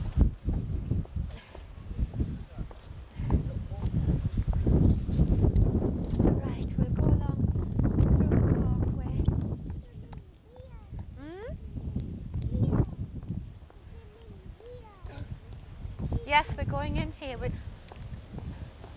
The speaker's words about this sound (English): What can you hear? I can hear the... That's right. The car wash. You can see the steam coming from it because it's hot water.